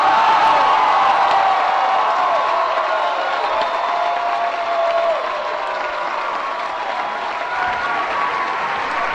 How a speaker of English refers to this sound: A lot of John Kerry supporters chanting along with that line, which is well known now.